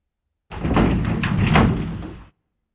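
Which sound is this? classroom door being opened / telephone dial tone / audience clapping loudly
classroom door being opened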